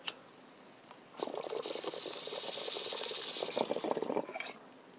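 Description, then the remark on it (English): Bubbling water gurgles steadily through a bong for a few seconds, a continuous rattling burble with a soft hiss of airflow, ending abruptly; no one speaks. “Pepsi, Diet Pepsi, and Bong Hits don't taste good together”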